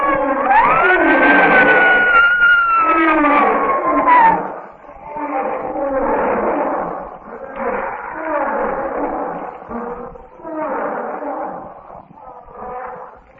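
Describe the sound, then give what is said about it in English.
A lion in a lion's den charges, roaring in one long, loud, wavering bellow, then letting out a rapid series of shorter snarling growls, harsh and forceful, with no talking over them. “With a blood-chilling roar, one of the brutes charges.”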